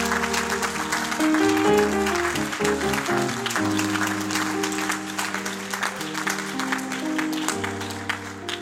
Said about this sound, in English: Would you give a hand to the King? Give a hand. Applaud the Lord. Applaud the Lord.